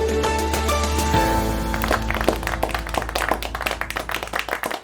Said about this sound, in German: So ähnlich mag es geklungen haben. Am Ende gab es Applaus und ein gemeinsames erleichtertes Aufatmen bei den teilnehmenden EU-Finanzministern.